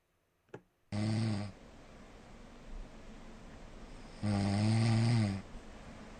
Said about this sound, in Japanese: どんなもんだ、どんな感じで俺いびきしてるんじゃいっていうことを、まあ、皆さんに聞いてもらおうかなと、ちょっと思って、ね。ちょっと音をね、流したいと思います。じゃあ、俺のいびきまで、ね、カウントしましょうか。俺のいびきまで、3、2、1。